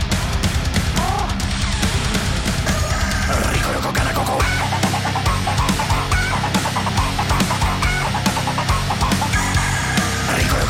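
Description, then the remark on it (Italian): A rooster crows in a henhouse amid a busy, continuous din of clucking chickens, loud throughout with no pauses and no talking. “gallo del pollaio.”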